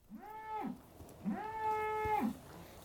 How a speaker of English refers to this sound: We're next to a group of cows, as you may hear.